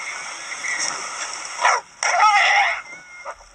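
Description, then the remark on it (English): A dog barks at a horse in a few sharp bursts, with a longer agitated volley in the middle, over a steady outdoor background hiss. “Yeah, the first time I'm saying good in there is after my dog, my horse kicked for the first time the dog into dog's chest. And actually after this kick, the dog was a little bit more furious.”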